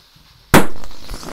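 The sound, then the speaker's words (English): A single loud, sharp pop of a balloon blown up too much bursts out after a moment of near silence, followed by a brief ringing tail that fades over the next second. “Too much, it popped.”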